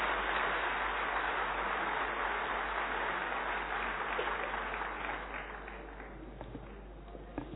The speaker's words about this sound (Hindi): उन्होंने 3 दिन पहले ही रिक्वेस्ट किया था आपको आने के लिए, उन्होंने अपने कार्यक्रम को स्थगित करके यहाँ इम्पोर्टेंस दे करके आए, इसके लिए आप सभी जोर से ताली बजा करके अभिवादन करें।